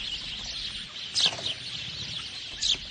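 A dense wash of high, chattering chirps from a flock of sparrows twittering as they fly away, with a few louder bursts of calls standing out.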